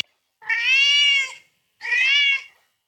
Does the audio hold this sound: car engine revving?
no